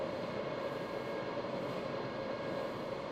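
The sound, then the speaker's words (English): Steady, continuous rumble of a reserved-seating-only limited express train bound for Asakusa, next stop Shimoimaichi, heard from inside the carriage, with a broad low roar and faint rattling that stays even throughout. “This is a reserved seating only train.”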